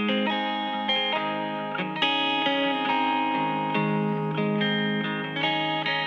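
A pop song intro plays at full volume: bright, sustained chords with a slightly processed, shimmering guitar tone, shifting every couple of seconds, with no voices yet.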